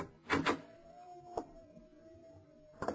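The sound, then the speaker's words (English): A door opens: a couple of quick latch clicks, then a long, thin hinge creak drawn out for a few seconds, ending in a soft knock as it swings to a stop. “Try the door”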